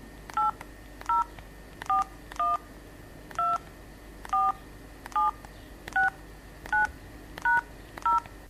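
Eleven short, clear telephone keypad tones are pressed one after another at a steady pace, entering an 11-digit account number into the Türkiye İş Bankası interactive telephone service, with a faint low hum underneath and no talking.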